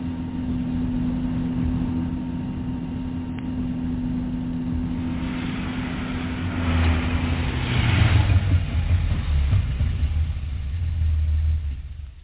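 A car engine runs steadily with a low rumbling hum, then swells louder around the middle as if revving or pulling up, before settling back to a steady idle. No one speaks.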